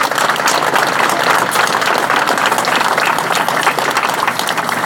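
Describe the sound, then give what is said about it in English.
A crowd applauds the groups RSS, NPHC and PSM steadily for about five seconds, a loud, dense wash of many hands clapping at once with no break or fade and no voices over it. “Give them another round of applause to RSS, NPHC, PSM.”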